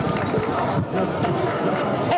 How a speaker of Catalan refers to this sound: Un fort aplaudiment per ella.